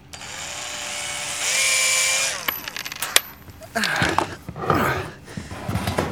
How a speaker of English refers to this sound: Why don't we just unscrew the hinge plate? Or we can do that. You get the bottom one, I'll get the high one. Heads up for falling screws. You almost put my eye out, dog. Yeah, I warned you. Here comes another one. All right, only one left.